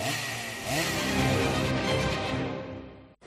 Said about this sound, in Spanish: Mima, oíches como rumban os robots cortacésped Kramer. É unha marca alemana que teñen na ferretería París, en Muimenta, e agora presentan unha nova inteligencia artificial.